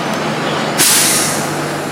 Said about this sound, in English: And I'm gonna pause for the truck.